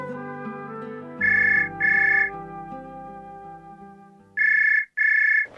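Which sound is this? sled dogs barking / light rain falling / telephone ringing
telephone ringing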